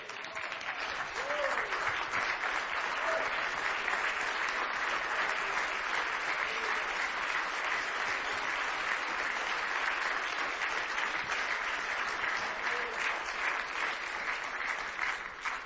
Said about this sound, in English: And the church can say, let's stand together and give Him a hand clap of praise.